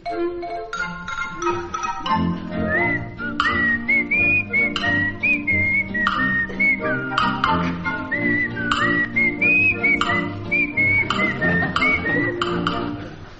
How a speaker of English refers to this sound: Ah, a little wooden figure is coming down the path. He's whistling to himself.